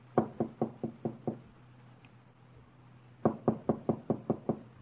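Two quick series of light knocks on someone's door at 10:45, six evenly spaced taps, a short pause, then seven more, soft with a faint hum underneath.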